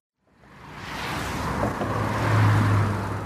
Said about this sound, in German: Auf einer Straßenbrücke irgendwo in Deutschland schleichen die Lastwagen Stoßstange an Stoßstange vorwärts, während ein Verkehrsschild wegen Brückenschäden ermahnt, langsamer zu fahren.